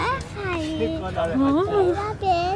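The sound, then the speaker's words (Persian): Children's voices chatter and call out over steady outdoor background noise, several kids playing in a park with high, lively pitched shouts and babble throughout. “یه عالمه بچه”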